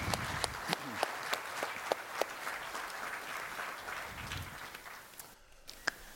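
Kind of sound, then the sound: crowd, audience applause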